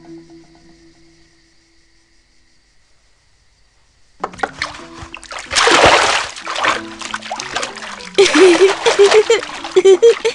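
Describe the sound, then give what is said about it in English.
After a few quiet seconds, water splashes loudly in irregular bursts and sloshes as a child washes himself, with a voice briefly sounding over the later splashes. “A child who can bring himself into the world can wash himself.”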